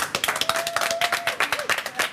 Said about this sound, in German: Können wir hier mal einen Applaus haben?